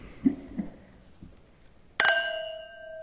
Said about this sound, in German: Jetzt stoßen wir einmal an. Ja.